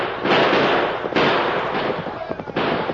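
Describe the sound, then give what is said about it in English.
Three or four loud gunshots fired by pursuers at fleeing riders crack out at irregular intervals, each a sharp, noisy blast that trails off into a hissing decay before the next one fires. “Yeah, shoot at them.”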